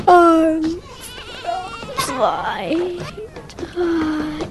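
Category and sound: animal, sheep bleating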